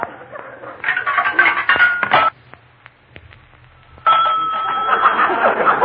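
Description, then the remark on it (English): A nickel drops into a payphone in a private house with a bright chiming ring, followed by a few quiet mechanical clicks of dialing a call to a tea room, then a steady, buzzing telephone tone fills the line. “A payphone in a private house.”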